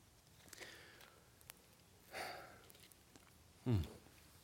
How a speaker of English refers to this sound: Let me clear my throat right quick.